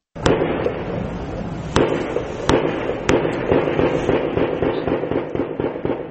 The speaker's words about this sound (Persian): صدای درگیری شدید و انفجارها در اطراف یک ساختمان در نزدیکی سرینگر، مرکز کشمیر تحت کنترل هند شنیده می شود. مقام‌های امنیتی هند می گویند، به نظر می رسد که 3 یا 4 مرد مجهز با نارنجک و ماشیندار هنوز هم در داخل این ساختمان سنگر گرفتند.